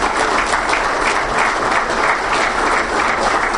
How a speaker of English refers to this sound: So how about one more round of applause for our speaker